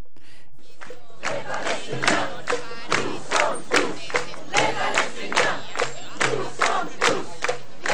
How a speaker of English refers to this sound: What you're listening to is a crowd of members of the Gaza Freedom March in Cairo. What they're chanting is, "We are all Palestinians."